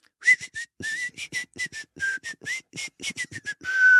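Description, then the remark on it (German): Someone whistles a brief tune, the melody of a song that a keyboard later plays: a quick series of short, clipped notes in a bouncy rhythm that ends on one longer held tone, with no one talking. “Pfeif nochmal so.”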